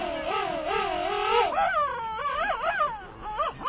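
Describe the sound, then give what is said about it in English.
A pair of king penguins standing face to face, heads tilted back and long bills pointed skyward, trumpet together in loud, warbling, wavering calls, two voices rising and falling in pitch and overlapping for several seconds without a break. “A pair of king penguins stands face to face. They tilt their heads back, point their long bills skyward, and trumpet in unison.”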